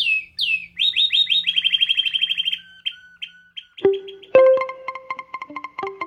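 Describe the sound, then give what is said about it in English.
A canary on the outskirts of Detroit, Michigan, sings a fast, bright trill of rapid repeated chirps, then breaks into sharper whistled notes and buzzy rolls, loud with no voices. “This week on the Nature Stories podcast, canary enthusiasts on the outskirts of Detroit, Michigan.”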